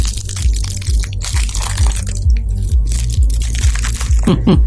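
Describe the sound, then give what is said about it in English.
A Violet Crumble honeycomb chocolate bar crumbles and shatters with a run of crisp, brittle crackles and crunches, loud and irregular, over a steady low rumble. “What is this? Violet crumble? It shatters.”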